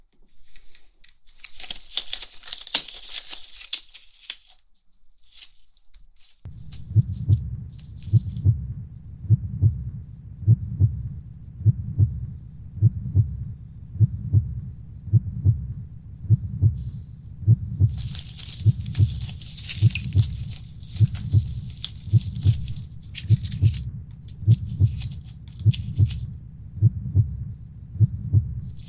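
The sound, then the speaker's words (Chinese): A muffled heartbeat heard through a stethoscope, checked after a vaccine took effect, steady low thumps about once a second, clear, with bursts of crinkly rustling at the start and again partway through. “疫苗生效了，来测一下心跳。”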